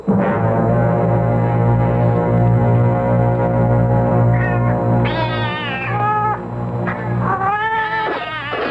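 Several cats meow in overlapping, wavering cries, loud, over a steady low droning tone that runs throughout; the meowing starts partway in and keeps going to the end.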